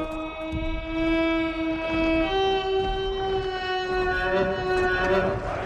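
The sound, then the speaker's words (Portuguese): A loud, sustained blast of the war horn of the Mumakil driver, with a brassy, buzzing, distorted, somewhat Arabic tone, holding one note before stepping slightly higher partway through, with rumbling noise underneath. “Ela tem um tom meio árabe. É uma corneta meio distorcida, né?”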